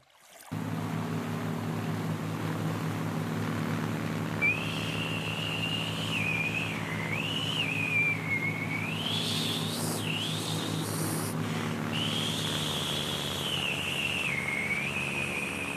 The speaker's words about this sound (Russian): извини, но можешь перестать свистеть? Иначе не услышим сторожевой катер.